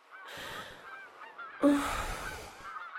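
A goose honks loudly in two harsh, raspy bursts, the second starting more abruptly and running longer, with no voices around it.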